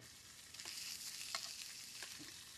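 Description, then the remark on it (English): Steady crackling sizzle of bologna frying in a pan, a dense hiss with scattered sharper pops and spits throughout, fairly quiet and with no voices. “You fry bologna, it tastes like a hot dog.”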